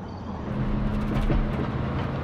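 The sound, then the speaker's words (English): A car speeds down a street at night, the lamps on its roof shining brightly, its engine a steady low rumble with a faint humming tone and road noise, continuous for a couple of seconds, no voices. “Robert's car speeds down a street, the lamps on the roof shining brightly.”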